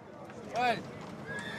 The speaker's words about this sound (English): Everywhere you look, there's horses.